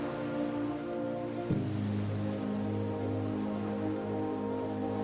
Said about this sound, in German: Glitzernd und funkelnd zeigen sich die Wassermassen von ihrer spektakulärsten Seite. Hypnotisiert von der gleichmäßigen Bewegung und dem rhythmischen Tosen der Wogen, merken wir fast nicht, wie der Tag allmählich anbricht.